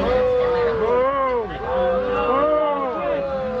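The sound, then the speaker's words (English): A large crowd boos Biden loudly and continuously, many overlapping voices holding long, low 'boo' sounds that rise and fall in pitch, with no break for the whole stretch. “So Biden gets booed, and wait to the very end, because the very end is the money portion where I laughed out loud.”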